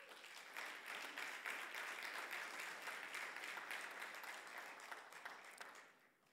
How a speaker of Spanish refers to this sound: Welcome with a big round of applause. Dele una bienvenida con un fuerte aplauso.